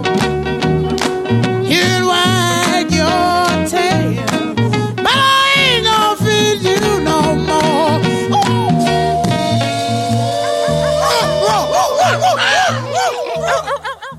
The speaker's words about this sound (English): Played two songs there just to give myself a little break with the heat and hydrate my throat again